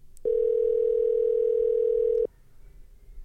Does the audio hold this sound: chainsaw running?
no